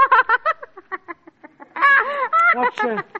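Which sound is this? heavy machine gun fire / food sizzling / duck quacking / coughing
duck quacking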